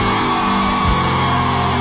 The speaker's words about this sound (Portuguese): Quem tá se divertindo, joga a mão e dá um gritão.